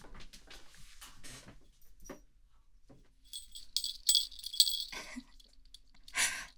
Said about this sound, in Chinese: 嗯，项圈才不是什么恶趣味呢，麋鹿的脖子上都会有铃铛的，而且这个不是项圈，是围巾，只是上面有个铃铛而已。